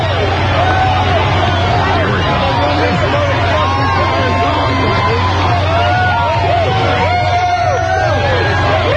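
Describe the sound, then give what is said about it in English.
A dense, roaring riot crowd of about 5,000 people fills the scene with overlapping voices and shouts, steady and loud throughout, with a low engine-like hum underneath suggesting vehicles. “I'm waiting to hear the riot. I think you're in the middle of it.”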